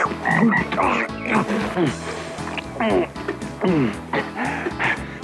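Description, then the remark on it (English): Deep, throaty frog croaks repeat in a steady, pulsing rhythm, loud, continuing without a break for the whole stretch. “Ooh, look at that frog!”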